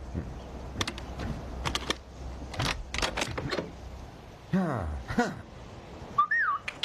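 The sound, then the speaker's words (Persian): A person whistles a short, bending tune near the end as their signature signal, following a stretch of sharp clicks and clatter with a few swooping sounds in between. No one speaks. “یه لحظه صبر کن ببینم این سوتو نشنوچی که میکنی یعنی چی؟”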